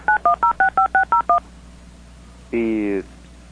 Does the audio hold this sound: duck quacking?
no